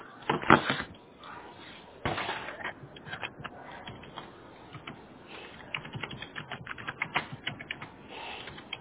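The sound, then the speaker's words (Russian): Steady typing on a computer keyboard as someone writes up a service request, with irregular bursts of key clicks and a couple of louder thumps, no one speaking over it. “Сейчас я пишу заявку, подожди секунду.”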